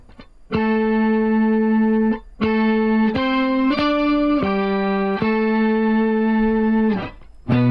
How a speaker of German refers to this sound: Tremolo? Leichter Tremolo? Mach mal ein bisschen, damit ihr für den Nachhall was hören könnt. Das ist auf jeden Fall ohne Ende verschiedene Pitch-Shifter, ne? Quinte, Septime, Oktave. Geil. Das ist so ein 12-String. Isomulation oder so.